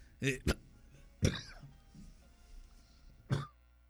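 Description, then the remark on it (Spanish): A quick double cough, then two more single coughs spaced out over the next few seconds, sharp and fairly loud against a quiet background. “La tos no iba.”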